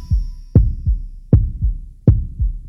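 A loud, deep heartbeat thumps in a steady lub-dub rhythm, with low booming double beats repeating about every three-quarters of a second and no voices.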